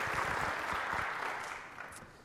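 An audience breaks into steady applause, a dense crackle of many hands clapping at once, fairly loud and close, tapering slightly toward the end.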